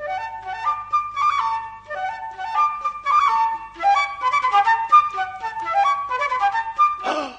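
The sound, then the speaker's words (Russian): A small shepherd's pipe plays a bright, lively tune of quick, rippling notes, clear, running continuously for several seconds with no voices. “Вечером, когда солнце спряталось за горы, Эспин достал дудочку и свистнул разок.”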